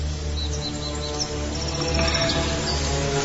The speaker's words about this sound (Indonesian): Udara pagi di daerah sekitaran Maribaya sangat sejuk. Ditambah sesekali bunyi kicauan burung yang menenangkan.